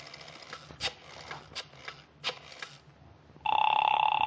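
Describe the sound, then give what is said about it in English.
A few soft clicks and bumps on a telephone line, then a loud, steady buzzing ring tone cuts in and holds, heard through the receiver. “Ah, it's ringing this time.”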